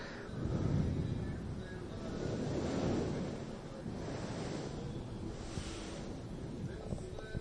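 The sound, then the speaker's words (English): Steady outdoor wind in Chicago at night roars with a deep low rumble, swelling in a couple of broad gusts before settling into a continuous whooshing hiss, with no voices. “Can you hear the wind in the Windy City blowing the clouds past the moon?”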